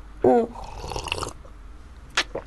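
A close-up sip from a drink: a short voiced slurp that trails into a breathy sucking noise, then two small wet clicks like a swallow, with no talking.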